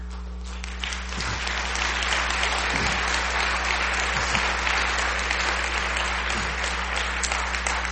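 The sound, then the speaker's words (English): An audience claps hands together in sustained, dense applause as a clap offering of thanks to the Lord during a church service, steady and fairly loud throughout, with a low constant hum underneath and occasional faint voices mixed in. “Clap offering. That's real.”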